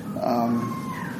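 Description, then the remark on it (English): A baby lets out a short, high-pitched squeak, a thin tonal whimper that rises briefly and fades over a steady background hum. “Oh, little squeak. Okay, I was thinking, is there a bird in here? No. There's a baby.”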